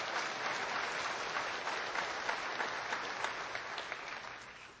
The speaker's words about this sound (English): We're now debt-free. Praise the Lord. Right there. Go ahead and give God a clap offering on that one.